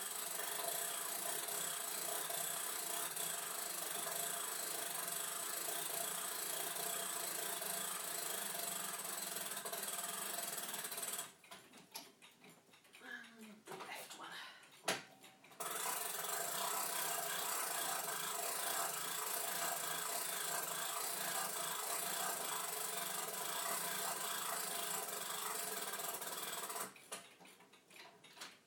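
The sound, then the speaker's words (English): A chiming clock being wound with a crank turned to the left at its middle winding point: dense, rapid ratcheting clicks go on steadily, pause briefly partway through, then resume, a light, even mechanical chatter with no voices. “We need some winding”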